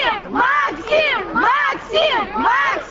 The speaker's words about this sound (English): Unlike heavily quarantined U.S. launches, roped off crowds cheered just a few yards away.